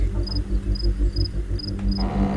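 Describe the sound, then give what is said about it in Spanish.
Crickets chirp at night in short, evenly spaced high-pitched bursts, repeating about every half second over a steady low rumble, with no voices present. “Seguía oyendo grillos, también algunos rebuznos y movimientos de lo que creía que eran gallinas o palomas, pero no escuchaba ningún vehículo cerca.”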